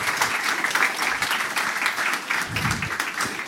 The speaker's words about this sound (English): A warm round of applause, everyone. Thank you.